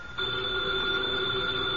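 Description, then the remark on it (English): A telephone on the desk in Nero Wolfe's office rings with a steady, buzzing electric tone that holds loud and unbroken for nearly two seconds, with no voices over it. “The phone, if you please, Mr.”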